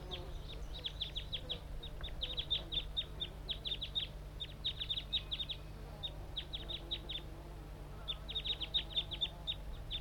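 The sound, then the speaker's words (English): A wild bird calls in a rapid series of sharp, high chirps, grouped in quick bursts with a short pause midway, over a steady low hum and no talking. “Perhaps the wild bird is also calling.”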